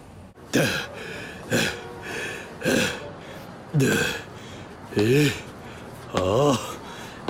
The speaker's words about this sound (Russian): Чего ты дышишь так, как будто бежал?